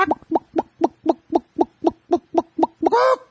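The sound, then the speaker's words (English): A rapid, evenly spaced run of about a dozen chicken-like clucks from a chicken-shaped toy vending machine that dispenses plastic eggs with small prizes, like the ones still at Papa's Pizza in Eugene. Fairly loud, ending in a drawn-out rising squawk. “Remember those old vending machines, though? The chicken? With the plastic they eggs? They still have them at Papa's Pizza.”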